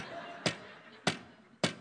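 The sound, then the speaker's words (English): Three sharp hammer strikes on a nail by a boy while an adult holds the nail, evenly paced a little over half a second apart, each a loud crisp knock standing out against a faint steady background hiss. “You hammer like your dad.”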